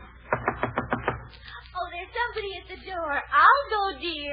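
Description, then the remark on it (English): A quick run of about six sharp knocks on a door, evenly spaced, followed by people talking. “Somebody at the door.”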